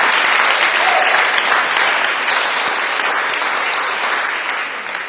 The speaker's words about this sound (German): Also die Sonne scheint und sie sind noch ein bisschen träge und müde, deswegen musste ich sie auch extra animieren, mal Applaus zu geben.